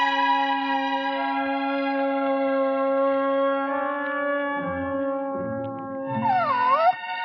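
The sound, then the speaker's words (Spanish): A dog's long, drawn-out howl holds a steady pitch for several seconds, then wavers and bends near the end. It sounds echoey and processed, with no voices. “Me había olvidado de ti, perrito. ¿Vas a acompañarme al bosque?”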